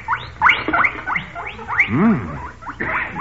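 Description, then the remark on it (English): A chorus of guinea pigs squeaking in a small box on a bench, with many overlapping shrill chirps and rising whistles in rapid bursts, plus one lower wavering squeal, fairly loud with no talking. “I have a little guinea pig in that small box on the bench.”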